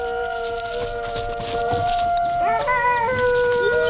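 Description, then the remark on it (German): Recorded wolf howling played back from a cassette recorder. The howls recur regularly and echo off the walls. Several long, overlapping mid-pitched howls hold steady, then swoop upward and waver, filling the whole stretch with no talking. “Das Geheul kommt vom Band. Deshalb ertönt es so regelmäßig.”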